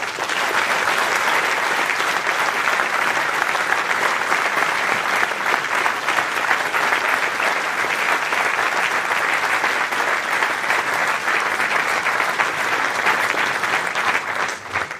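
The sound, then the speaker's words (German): Sustained applause from an audience at an evening stage event, thanking everyone who helped build the stage. A dense, steady wash of clapping holds an even loudness for about fifteen seconds before easing slightly at the end. “Und deswegen einmal Applaus für alle, oder?”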